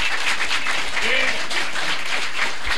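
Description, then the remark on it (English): An audience applauds the panelists steadily for a few seconds, a dense, even wash of many hands clapping at once with no gaps, with a faint voice or two murmuring underneath. “And with that, please give a round of applause for our wonderful panelists.”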